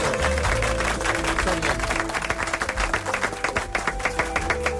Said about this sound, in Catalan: Un aplaudiment a vosaltres.